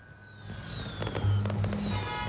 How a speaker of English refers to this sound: Traffic streams by the station. Darkened saloon cars and black cabs with their yellow rooftop taxi signs illuminated.